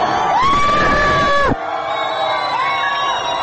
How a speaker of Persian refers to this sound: به همین دلیل مردم ایران خشمگین هستند و این خشم در شعارهایشان پیداست. وقتی جمعیت با صدای بلند شعارهای تندی را علیه نظام سر می دهد، ناگهان صدای تیر بلند می شود و دود گاز اشک‌آور می پیچد میان جمعیت.